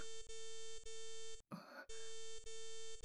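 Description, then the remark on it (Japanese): A bright electronic notification chime from a magic screen, signalling a message from the boss to all members of the organization, rings as a steady, buzzing harmonic tone with soft repeating pulses, briefly interrupted by a short rough burst of noise before the tone resumes. No one speaks. “この通知音は、魔法のスクリーン。”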